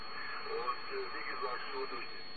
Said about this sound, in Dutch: Oh, dan doe ik de ruis wat dicht. En de audio wat open.